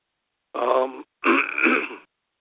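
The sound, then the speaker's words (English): Someone clears their throat twice in quick succession, two rough, gravelly bursts, the second longer and more forceful than the first, with no talking around them. “let me clear my throat.”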